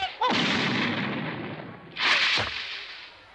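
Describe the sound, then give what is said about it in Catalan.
A powerful kick lands with a loud impact and a rushing noisy tail as Yamcha leaps into the air and kicks a tall, bald, heavy opponent in the face during a fight, followed about two seconds later by a second heavy blow as the opponent is knocked down. No one speaks. “Tot d'una salta en l'aire i li clava una puntada de peu a la cara que el tomba.”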